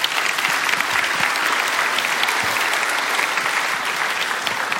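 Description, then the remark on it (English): Sustained, steady applause from a sizable crowd as two people are invited to come up, a dense wash of clapping hands that stays loud and even for the whole stretch without any talking over it. “Can you give them a round of applause as they come up?”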